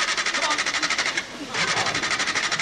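A stalled, poorly maintained car's engine cranks over and over without catching: a rapid, rhythmic grinding whir that pauses briefly, then starts churning again, steady and fairly loud with no voices.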